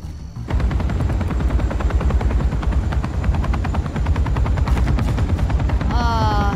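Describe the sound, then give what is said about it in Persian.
A helicopter roars overhead, its rotor blades thudding in a fast, steady chop over a deep engine rumble. Near the end, a high, wavering electronic whine rises above it. “الان هست که هلیکوپتر وارد رادارشون بشه.”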